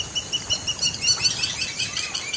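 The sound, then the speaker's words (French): Several birds guarding a buried crocodile nest give alarm calls as a Nile monitor approaches, chattering in sharp, repeated high-pitched calls that overlap busily over a low rumbling background, with no voices present. “Les oiseaux sonnent l'alerte.”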